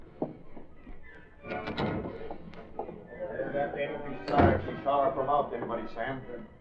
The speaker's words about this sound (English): What was that? Sounded like the service door in the kitchen.